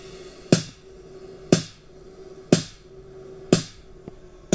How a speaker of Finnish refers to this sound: No tuossa kuuluu vähän niin kuin häiriö, melua ja häiriöääniä siinä välissä, mutta toi tuommoinen räjähdyksen tapainen ääni oli nyt sitten se impulssi.